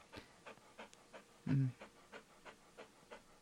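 A dog pants in a living room in a steady, quick rhythm of breathy huffs, fairly soft, with one brief louder low thump partway through and no talking.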